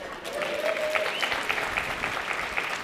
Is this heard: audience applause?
yes